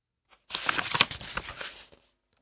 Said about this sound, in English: I brushed wedge 5 with paint. I pressed it onto the paper here and here.